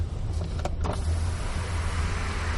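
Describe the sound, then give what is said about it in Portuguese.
A car's engine hums steadily as the driver maneuvers to park, while an electric window motor whirs as the glass lowers, with a few brief clicks and thumps early on and no one speaking. “vamos ver onde é que eu enfio esse carro agora.”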